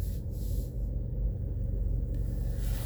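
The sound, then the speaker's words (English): Steady low rumble of a truck engine towing a big welding trailer through a drive-thru, continuous, with faint hiss over the top and no voices. “This guy's got a trailer behind his truck going through the drive-thru.”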